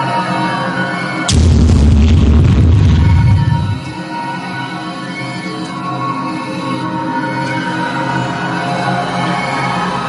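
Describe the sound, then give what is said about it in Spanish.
A single loud explosion erupts after a moment of low ambience, a deep booming blast that rumbles for a couple of seconds before settling into a sustained, droning tonal backdrop. “Hoy en día, pocos astrofísicos piensan que se actualizó una explosión como la que acabamos de ver.”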